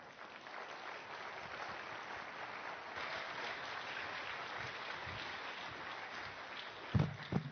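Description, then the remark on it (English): A church audience claps together after a sermon in steady, sustained applause that fills the room for several seconds, with a few louder claps or thumps near the end. “Let's give John another round of applause for a great, great sermon.”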